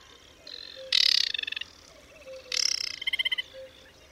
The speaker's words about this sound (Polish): Piosenka Wodniczki brzmi jak spowolniona, niemrawa wersja śpiewu blisko spokrewnionej z nią Rokitniczki.